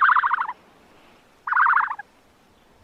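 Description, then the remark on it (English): An ostrich call: short, loud bursts of rapid, warbling, gobble-like notes, repeated three times with brief silent gaps between them and no talking. “That, my friends, was an ostrich.”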